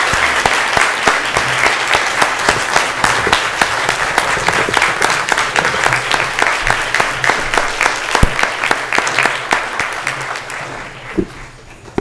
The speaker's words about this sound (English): And let's give them a nice round of applause for their accomplishments.